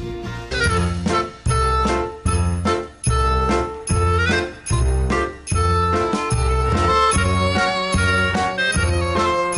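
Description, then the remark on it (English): Upbeat, Christmassy jingle-bells style music played by a Jewish-sounding band for Thoroughly Jewish Thursday on Dr. Michael Brown's show plays loudly on its own, with bright tinkling tones over a steady, bouncy beat that pulses about twice a second. “You say, wait, isn't that a Christmassy kind of jingle bells kind of music played by a Jewish sounding band?”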